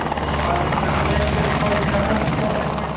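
A military helicopter flies at a Polish military base during war games, its engine roaring and rotor blades thudding in a loud, steady, continuous drone that fills the whole few seconds.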